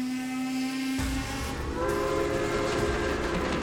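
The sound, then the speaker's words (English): A steam train sounds a sustained whistle, then gives way to a steady, loud rumble and clatter of wheels rolling along the tracks, with no voices present. “People traveled on cramped steamships and across long railroad journeys to the Midwest territories.”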